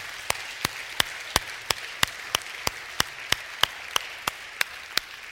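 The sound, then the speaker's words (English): A church audience in Aurora, Illinois, applauds a guest during a morning service, a dense wash of clapping with sharp, evenly spaced claps standing out in a steady beat, about three per second, with no voices heard. “Let's give him a hand clap this morning.”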